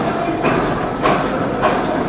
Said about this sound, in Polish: To trochę hałasuje, no ale trudno, żeby taka maszyna nie hałasowała, jak już tyle lat ma.